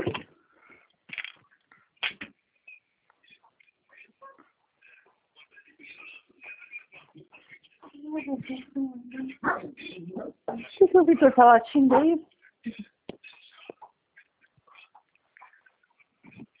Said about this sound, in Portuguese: Esse cachorro está latindo.